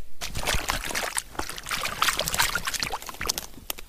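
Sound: water splashing and trickling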